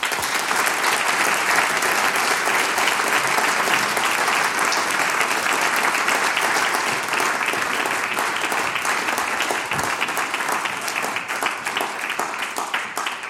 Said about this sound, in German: Das ist euer Applaus.